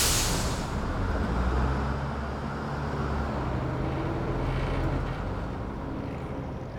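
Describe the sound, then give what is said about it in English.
A large bus engine rumbles steadily for several seconds as the bus breaks down, opening with a short sharp hiss like an air brake release, the low drone holding even throughout with no voices. “And then the bus breaks down.”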